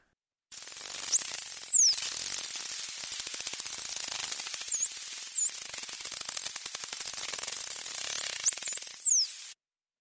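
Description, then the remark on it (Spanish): Dolphin vocalizations: high, swooping whistles rise and fall over a dense, crackling buzz of rapid clicks that continues steadily for about nine seconds, with no voices. “Eso es un delfín, parece un choque eléctrico.”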